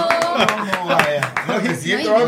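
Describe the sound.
A short round of applause, sharp claps at an uneven pace from what sounds like a few people nearby, mixed with voices talking and laughing over them.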